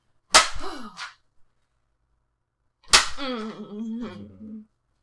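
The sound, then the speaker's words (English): Two sharp, loud cracks of a leather strap striking, spaced a few seconds apart, each followed by a brief wordless vocal sound from a person. “Leather beaten, you do good shit.”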